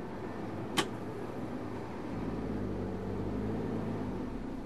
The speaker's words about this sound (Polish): Samochód jest ustawiony pod wzniesienie, więc troszkę jest wymagane dodanie gazu. To próbujemy raz jeszcze. Lekko gaz.